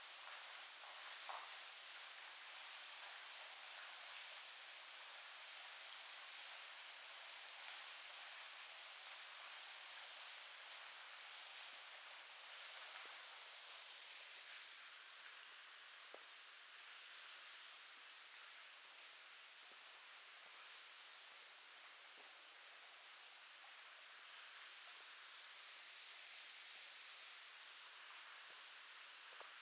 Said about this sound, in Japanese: よいしょ。滝の音はこれくらいでいいかな。